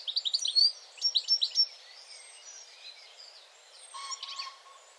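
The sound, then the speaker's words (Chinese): Birds singing outdoors in a park: two quick bursts of rapid, high-pitched chirping trills, followed by softer, scattered calls from other birds. No one speaks. “也许是鸟儿在歌唱，也许是微风吹着树叶沙沙作响。”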